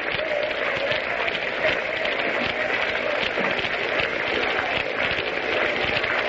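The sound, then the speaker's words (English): A baseball game crowd claps in a scattered, half-hearted way, a steady wash of many hands patting unevenly for several seconds at moderate volume with no speech. “Crowd is beginning a sort of a half-hearted hand clapping.”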